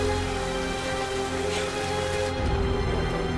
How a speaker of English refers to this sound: She runs out under the pouring rain.